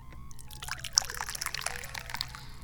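tea being poured

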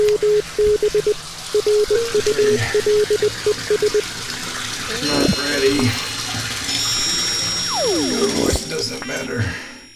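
water running

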